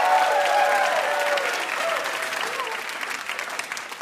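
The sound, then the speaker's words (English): An audience at the show Ask Me Another claps steadily for several seconds for Adam Davidson and Alex Bloomberg, a dense wash of many hands that slowly thins and softens toward the end, with a few faint voices and cheers mixed in. “How about another round of applause for Adam Davidson and Alex Bloomberg?”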